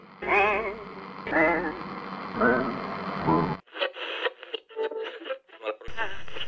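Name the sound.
radio static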